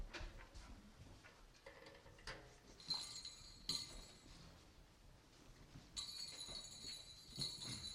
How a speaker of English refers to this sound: Pardon me while I move these bells in case I step on them.